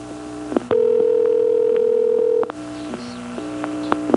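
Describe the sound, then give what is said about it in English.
A low electrical hum on a phone line during a call to code 414 keeps switching on and off, with a louder steady tone sounding for about two seconds in the middle. No one speaks. “On this next call to 414, you can hear the hum being modulated off and on.”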